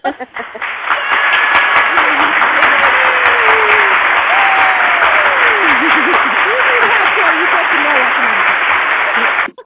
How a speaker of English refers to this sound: Yay! Maybe an applause for that one.